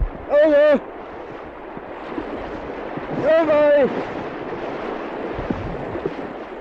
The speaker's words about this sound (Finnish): Kiuharin viimeinen koski, sen kumu kantautuu tänne rannalle korviimme.